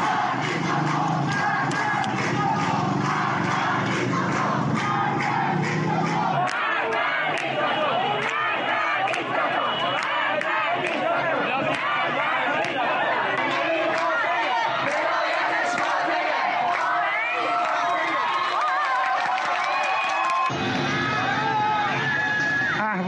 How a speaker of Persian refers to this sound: در ادامه اعتراض‌های شب گذشته در اهواز، برخی معترضان روسری‌های خود را آتش زدند و علیه حکومت شعار دادند. صدای این اعتراضات را بشنویم.